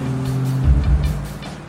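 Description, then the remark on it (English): An SUV engine hums low and steady, swelling briefly as the vehicle pulls off from a courthouse, then easing as it moves away, with no voices. “Tyson drives them all away from the courthouse.”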